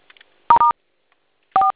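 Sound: telephone keypad dialing tones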